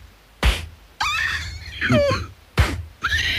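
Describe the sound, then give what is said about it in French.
Two sharp, loud hand slaps struck on a person, sounding the same as hand claps, spaced about two seconds apart, each followed by a strained, pained vocal cry or yelp. “Tu peux éviter de hurler quand je te frappe, parce que les gens n'entendent pas que ça fait le même bruit que quand j'applaudis, d'accord?”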